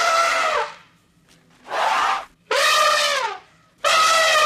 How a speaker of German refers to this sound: Ja, und Sita hat nicht nur eine komische Stimme, nein, Sita ist wirklich ein Elefant. Um genauer zu sein, eine Elefantenkuh. Ja, sie lebt im Zoo in Osnabrück und braucht zum Malen weder Pinsel noch Hände.